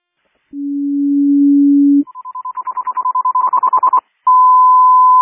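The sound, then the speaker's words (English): A dispatch general alarm tone sent out for the activation of the command center: a steady low tone, then a higher beeping tone that pulses faster and faster, ending in a long, loud continuous high tone. No voices. “Can you give me a general alarm tone out for the activation of the command center?”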